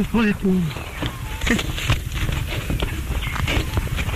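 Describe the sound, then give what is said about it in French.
A duck named Ripper at the Timbiwila nature reserve in Australia imitates the English phrase "You bloody fool": a short, raspy, voice-like utterance with wavering, gliding pitch, followed by a hollow knocking clatter and muffled scuffling over steady background noise. “C'est le canard, ça.”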